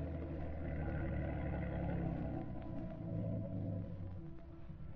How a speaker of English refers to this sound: Hey, listen. There's a motorboat coming toward the boathouse now.